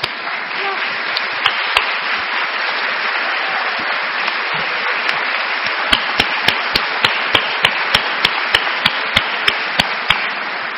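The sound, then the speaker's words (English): A crowd applauds steadily for about ten seconds, a dense wash of clapping, with a few sharp claps that become evenly rhythmic toward the end. “Well, we'll clap for them.”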